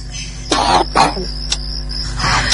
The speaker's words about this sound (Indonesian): kudengar suara orang batuk dari arah luar kamarku. Seperti orang yang kesakitan.